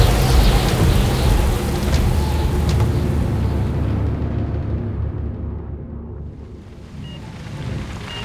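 A loud, continuous thunderstorm with heavy rain hissing and deep thunder rumbling throughout, the rumble surging early on and then rolling on steadily without letting up.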